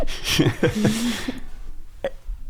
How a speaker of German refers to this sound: Und kannst du auf Bestellung rülpsen?